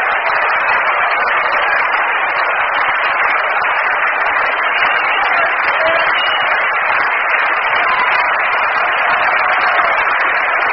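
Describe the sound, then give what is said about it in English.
A baseball crowd at Shea stirs in a steady, loud wash of overlapping voices and rustle during a game, holding an even level throughout without any sharp cheers or distinct bursts. “Well, the crowd here at Shea is starting to stir around, and a line drive base hit to left center field by Kenny Boswell.”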